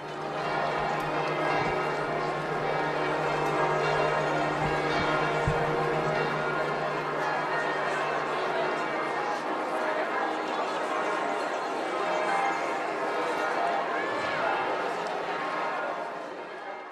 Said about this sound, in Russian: Бенедикта XVI встретили звоном колоколов всех храмов Республики Сан-Марино.